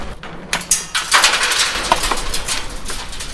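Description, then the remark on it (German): A drinking glass, drained in a toast at the topping-out ceremony of the St. Barbara Klinik, shatters with a sharp crash, followed by a scatter of bright, high-pitched tinkling shards over about three seconds, with no voices. “Darauf trinke ich das Glas ich aus, es zerbrecht.”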